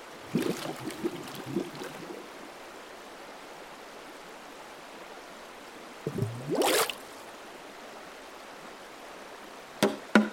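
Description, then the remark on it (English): Industrial-strength drain cleaner is poured into a held-down man's mouth in a few short gurgling bursts, one rising in pitch as it fills, over a steady background hiss, with no talking and a couple of sharp clicks at the end. “Pour the rest in.”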